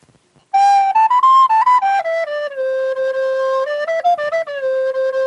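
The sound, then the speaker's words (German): A school recorder made in the workshop is test-played after its block has been tapped back in: a short run of clear, breathy notes, stepping up and down in pitch before settling on a few longer held tones, loud and without any talking. “Also jede Schulblockflöte, ich tue jetzt den Block wieder reinklopfen. Und jetzt wollen wir mal hören, ob es schon befriedigt.”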